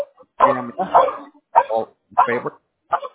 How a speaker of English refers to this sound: I'm so sorry. The dog barking is really messing up my hearing.